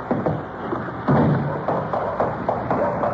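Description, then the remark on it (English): Someone who lost the key struggles with a locked door, probably double-locked: a series of dull thumps and knocks at an uneven pace as the door is pushed and jiggled, fairly loud, with no talking. “Looks like you have a little trouble getting that door open.”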